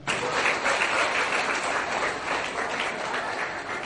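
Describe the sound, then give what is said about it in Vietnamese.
A crowd claps steadily throughout, giving a further round of applause for two young children, a dense, continuous patter of many hands holding a sustained level without breaks and with no clear voices over it. “Vì vậy nè, hai trưởng môn phái hãy chào bạn mình, các bạn mình hãy dành cho một tràng pháo tay nữa.”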